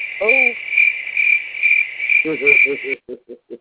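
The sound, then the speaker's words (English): A cricket sound effect: crickets chirp in a steady, shrill trill that cuts off abruptly near the end, while low, throaty croaks repeat in short rhythmic bursts underneath and continue alone. No one speaks. “I gotta give you the cricket for that.”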